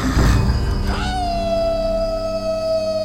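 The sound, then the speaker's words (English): A wolf howls at night across a valley: after a brief rough onset, one long, steady, fairly high note rises into place and is held unbroken for about two seconds. “Another wolf across the valley joined in the night's chorus as the raider lay on the ground, his eyes wide in astonishment.”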